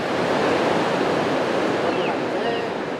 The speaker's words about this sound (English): The sound of crashing waves and children playing along the Tijuana coastline looks like a normal day at the beach.